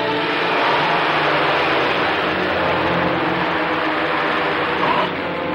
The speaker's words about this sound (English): As Carroll sprints off, Marlowe runs to his coupe. Losing sight of the wiry henchman, Marlowe gets into his car and speeds off, driving over the curb as he takes a corner.